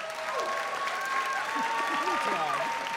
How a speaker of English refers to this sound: Let's hear cheers for the pro side.